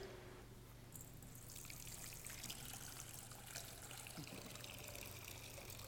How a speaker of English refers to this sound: As we pour out this water, we pause to thank you, God, for the gift of creation called forth by your word.